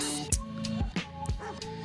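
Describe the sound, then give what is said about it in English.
A dog barks three times at a steady pace outside in the street, over a low constant background hum. No one speaks. “Can you hear the dog outside?”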